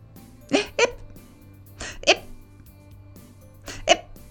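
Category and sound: human body sound, hiccups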